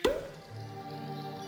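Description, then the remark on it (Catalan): A cork pops out of a bottle once, sharp, right at the start, followed by a soft steady tonal hum for the rest of the moment. “Destapa.”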